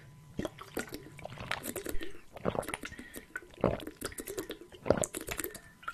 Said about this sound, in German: Ich muss erstmal einen großen Schluck Wasser trinken, fällt mir gerade so auf. Ich habe heute schon wieder so wenig getrunken, dass ich wieder so müde bin den Tag über.